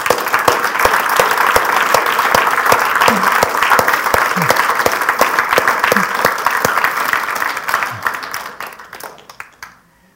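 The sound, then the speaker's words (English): A church audience applauds together to show appreciation for those with the gift of giving, a dense, steady wash of many hands clapping that holds for several seconds before tapering off and fading to near silence. “I want to ask everyone here, would you join me in giving them a round of applause?”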